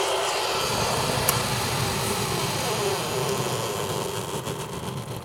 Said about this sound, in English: It's in the kitchen here. And it's nearly done now, as you can hear. And as when it pours out the hot water, the boiling water, the next set of water goes down for the next cup of tea or coffee or soup. I'm making soup.